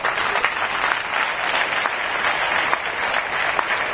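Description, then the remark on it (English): An audience applauds steadily, many hands clapping at once in a dense, continuous patter that holds an even loudness throughout, with no voices rising above it. “They want to clap. Why don't you clap with them?”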